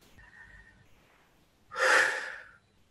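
A single deep, breathy inhale-exhale close to the mic, loud and airy, rising and fading over about a second after a quiet start with a faint tone.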